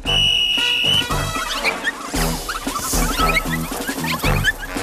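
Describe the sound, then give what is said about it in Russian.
A single sustained whistle blast, blown by the moon girl as a start signal, lasts about a second at the start, loud and shrill, then gives way to busy, bouncy music with scattered cartoonish sound effects. “Смотрите, у лунной девочки свисток.”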